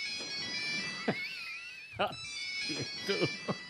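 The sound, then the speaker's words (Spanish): A mobile phone's electronic ringtone melody cuts in during a live violin concert, interrupting the violinist, its bright tones sounding over the bowed notes and scattered sharp knocks, with reverberation. “Sí, pasó eso, que de repente el violinista es interrumpido por un móvil y en los conciertos, como en el cine, como en el teatro, vale.”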